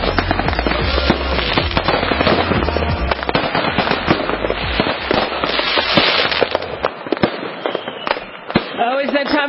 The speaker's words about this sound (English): Fireworks, and more fireworks.